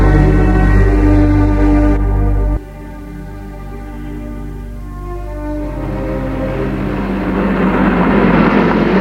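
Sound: motorcycle speeding past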